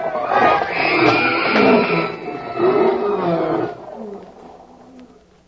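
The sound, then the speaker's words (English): Several big cats in wild animal cages roar loudly in overlapping, sustained growling bursts for a few seconds as a herd of steers heads for the cages, then the roars trail off into quieter rumbling. “Those steers are making right for the wild animal cages.”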